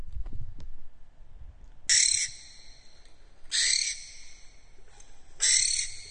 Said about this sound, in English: You said earlier a direct quote from a barn owl. Would you be interested in hearing what that might sound like?